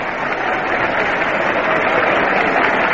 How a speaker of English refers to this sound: Richly deserved the applause that Gerber gets now as he walks up to the plate.